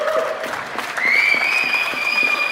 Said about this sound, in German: Abendlicher Applaus auf den Balkonen und aus den Fenstern für Krankenschwestern, Pflegepersonal, Verkäuferinnen und alle, die in den Wochen des Shutdown Besonderes geleistet haben.